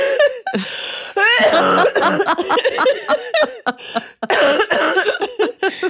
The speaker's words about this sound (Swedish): Oj, nej. Nu kommer host.